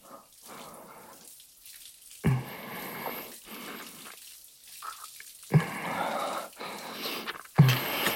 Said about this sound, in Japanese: シャワーの音でやってる音ごまかしてもいい。